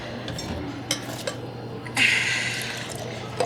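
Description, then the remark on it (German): A couple of light clinks of glass or dishes, then a steady splashing rush of so-called energized water being poured for over a second, fairly loud, with no one speaking. “Habt ihr noch was von meinem energetisierten Wasser für mich?”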